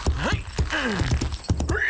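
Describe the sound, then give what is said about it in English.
Hooves clip-clop in an uneven rhythm while a horse whinnies with rising and falling squeals between the steps, loud and without any talking. “Get on the horse, Levine. That's Revere. Revere, Levine, just so you ride a horse good. Now get going.”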